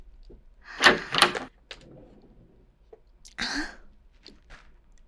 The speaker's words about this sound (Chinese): 你怎么来了？怎么就直接敲门？